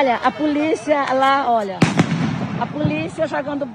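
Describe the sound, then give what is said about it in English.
A single sharp, loud blast from a tear gas bomb fired by police cuts through a crowd of raised, shouting voices at a protest by Indigenous people at Brazil's Bureau for Indian Affairs (FUNAI) in Brasilia, followed by fainter pops and continued yelling. “Police responded with pepper spray and tear gas bombs.”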